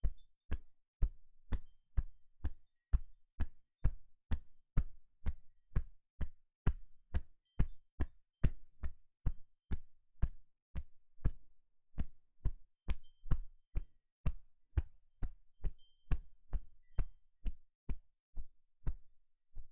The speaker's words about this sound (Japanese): 次は肩を叩くと。トントン。